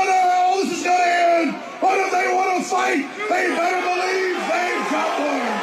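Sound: crowd cheering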